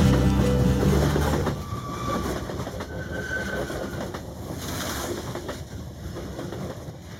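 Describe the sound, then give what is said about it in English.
A train rumbles along the rails with a steady rattling clatter and brief metallic squeals, loudest at the start and then settling into a continuous rolling noise, on a train ride from Hamburg to Copenhagen. No voices. “The train ride to Copenhagen from Hamburg was incredible because the train would drive into a gigantic ferry boat to continue the journey at sea.”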